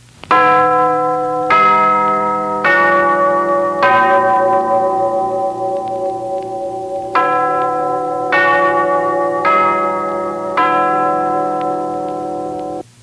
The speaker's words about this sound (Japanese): そして試験開始の鐘が鳴り始めました。